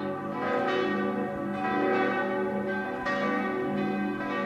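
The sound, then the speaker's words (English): Cathedral church bells ring out in a steady, overlapping peal, strikes landing about every second with rich lingering hum between them, loud and continuous with no voices. “They ring assertively at 7 a.m. to get everyone up, at noon for lunchtime, and at 7 p.m. to close every shop in town.”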